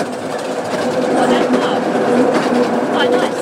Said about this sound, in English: We're on the Romney Hythe and Dymchurch Railway, and I thought I'd record the train.